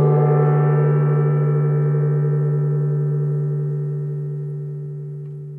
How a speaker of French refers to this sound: Alors, j'avais envie de commencer l'atelier en faisant entendre le gong.